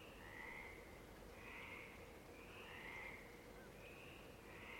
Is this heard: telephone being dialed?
no